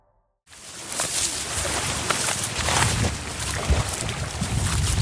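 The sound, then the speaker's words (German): After a brief moment of silence, steady wind rushes in and keeps blowing with rising and falling gusts, a loud, rustling whoosh with low rumbling underneath, as it sweeps through golden reed beds framing a vast deep-blue lake, with the Andes on the horizon. “Der Wind fährt durch das Goldgelb der Schilflandschaften, die das tiefblaue, schier endlos weite Wasser rahmen.”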